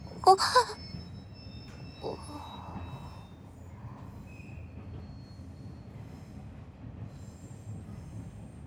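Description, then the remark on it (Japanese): Train wheels squeal sharply in a short high-pitched burst, followed by fainter metallic whines over a steady low rumble of a rail car slowing down. “列車が減速しています。”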